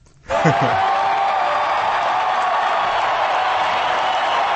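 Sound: stadium crowd cheering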